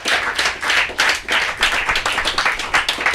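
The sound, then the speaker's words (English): A crowd of people clapping steadily for Pro Wrestling's Paul Jones, a dense, lively round of applause that stays loud for a few seconds without any talking. “We've got Pro Wrestling's own Paul Jones. Give him a round of applause.”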